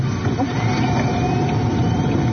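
A hydrogen-fuelled car engine, running in hydrogen mode, accelerates with a steady, continuous low rumble, heard from inside the vehicle while driving, with road and cabin noise blended in and no voices.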